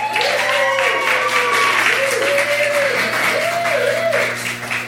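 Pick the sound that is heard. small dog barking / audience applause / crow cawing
audience applause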